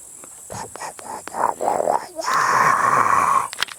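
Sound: mosquitoes buzzing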